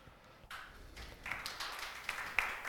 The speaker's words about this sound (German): Der hier mäßig erscheinende Applaus ist nur dem technischen Equipment geschuldet.